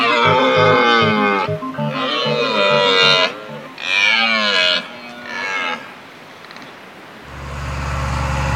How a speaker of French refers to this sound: C'est peut-être le brame du cerf, mais qui est quand même limité à l'automne. Bon, le brame. Je pense que c'est le son qui sera le plus intéressant chez nous. Bon, bien sûr, il y a le brame du cerf, mais enfin, ça me fait pas vibrer.